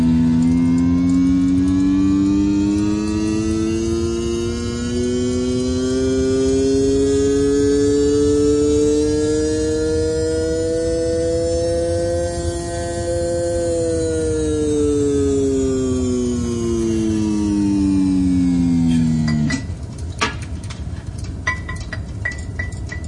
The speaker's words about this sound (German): keine Spur von Hitze. Der Motor ist okay.